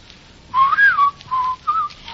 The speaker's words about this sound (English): Shan't whistle. Go outdoors and whistle in the street.